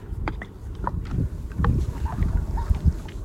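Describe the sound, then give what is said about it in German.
A deep, continuous rumbling roar of an approaching tidal bore wave on a river in northern Brazil, heavy and thunderous, swelling and surging unevenly with churning water sounds and no voices. “Und dann wird dieses Donnergrollen, das wird immer lauter und immer lauter. Man denkt, ist das die Welle?”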